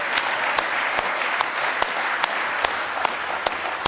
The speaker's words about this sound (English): Are you glad you're here? Let's give him a real good hand clap of praise in the house of the Lord tonight.